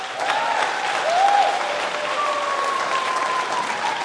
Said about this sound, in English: One more round of applause for our graduates.